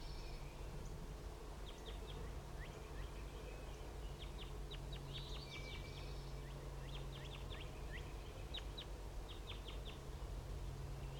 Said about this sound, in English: The crossbills are in the trees around the net site and they're just chittering, and I believe one is going down right now.